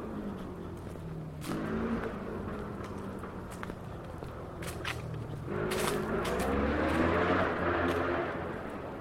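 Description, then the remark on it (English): A motorbike engine drones along a 30 mile an hour road, growing louder and rising in pitch as it passes, with a few sharp footstep-like taps scattered through. No one speaks. “Going on, it's actually a motorbike.”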